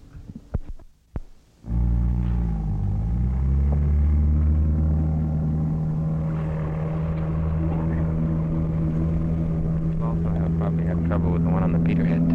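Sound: boat engine running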